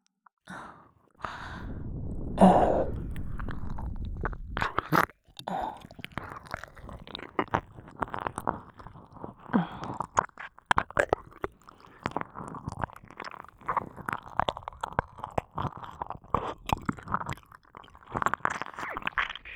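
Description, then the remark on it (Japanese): Wet mouth licking sounds, a steady stream of irregular smacks and slurps that opens with a heavy breathy exhale, with no talking. “もっとだ、もっと舐めさせてくれ。”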